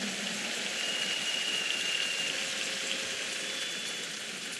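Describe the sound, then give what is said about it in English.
An audience claps for Jesus after a prayer, a dense, hissing wash of many hands clapping at an even loudness throughout, with no voices standing out. “If you are clapping for Jesus, you can make it bigger and louder.”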